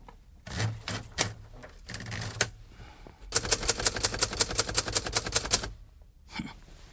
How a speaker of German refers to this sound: Darf ich mal kurz etwas auf dieser Schreibmaschine tippen? Meinetwegen.